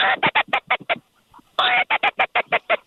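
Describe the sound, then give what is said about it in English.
Loud duck quacking near a hunting blind on the opening day of teal season, in two rapid rhythmic runs of harsh quacks, about six, then a short pause and nine or ten more, with no talking. “Yeah, there's a few birds around.”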